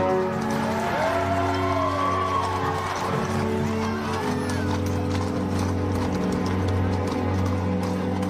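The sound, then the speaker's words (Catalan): Horse hooves clip-clop in a steady, continuous rhythm, layered over sustained droning tones and a faint background murmur. “Josep Lluís Santiso és l'home que ha posat els cavalls, no?”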